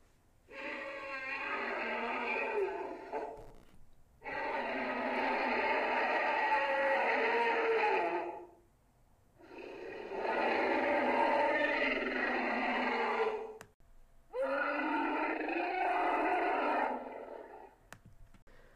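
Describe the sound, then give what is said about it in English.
Four long, loud Universal stock elephant bellows, used as the voice of the Giganotosaurus in Turok and Primeval, each lasting several seconds and separated by short pauses, with a harsh, rasping, roar-like quality suited to a monster's voice. “In both Turok and Primeval, the Giganotosaurus is voiced by Universal Stock Elephant Bellows.”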